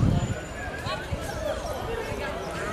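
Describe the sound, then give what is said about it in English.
Hooves of a horse pulling a streetcar at Disneyland clip-clop past in a steady rhythm, half-buried in the murmur of a busy outdoor crowd with people talking. “And the streetcar just went by, pulled by a horse.”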